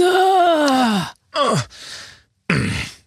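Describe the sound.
A voice imitates the groans of someone heaving themselves out of a car: a long, falling, strained groan, then a shorter grunting effort and a breathy exhale, followed by another sighing groan.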